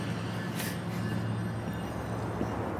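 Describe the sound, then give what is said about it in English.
An Amtrak passenger train rumbles by, a steady, loud low drone with a constant airy hiss over it and one brief brighter burst of noise, no voices. “Yeah, that's an Amtrak.”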